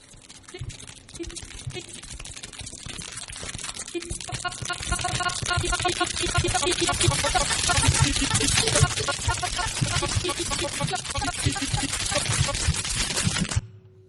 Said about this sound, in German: Das war meiner Meinung nach ein Schnitzel in der Pfanne, Schnitzelklang von Laura Mello.